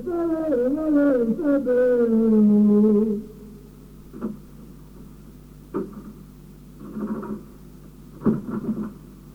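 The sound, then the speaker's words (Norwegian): A heavy fire door with a fire lock swings shut with a long, descending creak, then a few separate dull knocks and clicks follow as it latches and locks. “Jeg har låst deg ut. Det er brandlås på døren her da.”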